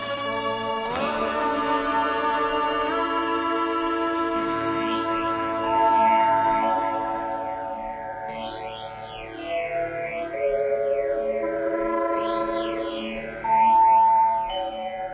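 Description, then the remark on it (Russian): A spaceship landing effect: a sustained electronic drone with layered tones, overlaid by repeated rising and falling synthetic sweeps, loud and continuous with no voices. “Вторая планета системы Медуза. Идем на посадку.”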